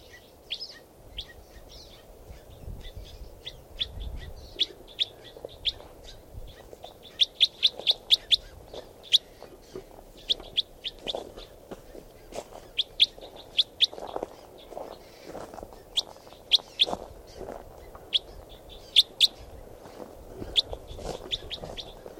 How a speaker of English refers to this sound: And there's one more bird in the flock calling here. That's him.